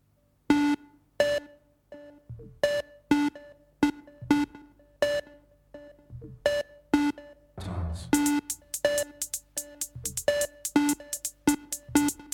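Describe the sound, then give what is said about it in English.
A five-tone musical signal opening the Intergalactic Wasabi Mix on Anon Radio rings out in bright, buzzy synthesized notes, repeated several times in a steady rhythm, then speeds up into a rapid, dense flurry of tones near the end. No one speaks. “If everything's ready here on the dark side of the moon, play the five tones.”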